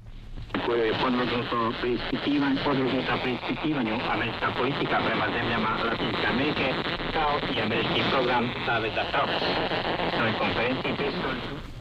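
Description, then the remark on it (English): A shortwave radio signal smeared with harsh, buzzing jammer splatter, interference from a jamming station on the adjacent channel, steady and fairly loud throughout, with a garbled broadcast voice partly audible beneath the noise. “In the case of jammer splatter, the station on the adjacent channel is a jammer.”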